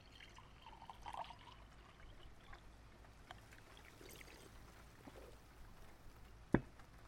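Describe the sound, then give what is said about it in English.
Water trickles quietly into a glass in a soft, steady pour, faint, ending with a single sharp clink of glass, as a patient helps themself to water during a consultation. “But could I have a glass of water? Yes, of course. Help yourself.”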